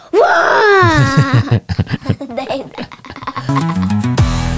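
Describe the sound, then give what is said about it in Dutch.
A person's voice mimics a baby's wail, starting with a long rising, quavering cry and breaking into choppy sobbing bursts, loud, ending in a sharp squeal. “Of de baby's moesten heel veel geluid maken.”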